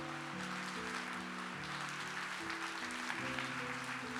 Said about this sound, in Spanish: Dale un aplauso más fuerte, más fuerte.